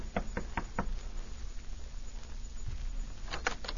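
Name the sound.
knocking on a door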